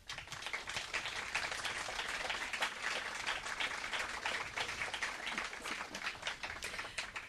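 An audience at a colony event applauds steadily, many hands clapping in a dense, continuous patter that holds at an even level for several seconds with no voices.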